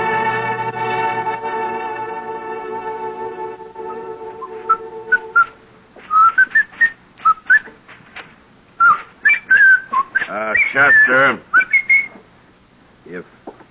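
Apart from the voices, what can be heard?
person whistling a tune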